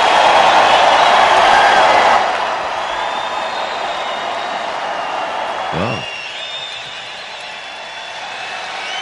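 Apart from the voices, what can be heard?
crowd cheering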